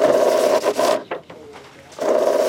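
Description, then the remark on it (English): An AccuVote ballot counting machine, with 1980s technology and no internet connection, whirs and rasps as an election official in Milton feeds sample ballots through one by one, in two loud mechanical bursts separated by a quieter stretch with faint clicks and rustling. No one speaks. “The machine, called the AccuVote, kind of looks like a big paper shredder.”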